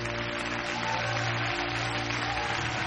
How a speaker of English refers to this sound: Oh, come on. Stop giving a golf clap.